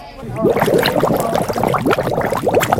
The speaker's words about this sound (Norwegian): Kan vi lige få nogle bobler?